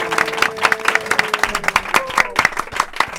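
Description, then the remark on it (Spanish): An audience applauds steadily for the teachers of la Asunción, many hands clapping in a dense, bright rhythm with some sharper individual claps, while a tonal hum and faint voices run beneath. “Y desde aquí ese aplauso también para todos los profesores de la Asunción que están currando muchísimo, ¿verdad?”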